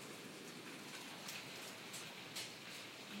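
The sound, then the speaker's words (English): Hail falling in a steady, dense patter, with a few sharper ticks and impacts standing out now and then. The sound is fairly faint, and nobody speaks. “It is hail.”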